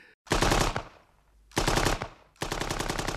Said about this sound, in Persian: صدای گلوله کتاب را بست. صاحب کتاب به زمین خورد.